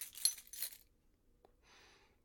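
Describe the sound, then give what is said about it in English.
Keys for a door jangle in a couple of bright metallic bursts, followed by a soft click and a faint scraping rustle, with no one speaking. “Those are for my door, is it not?”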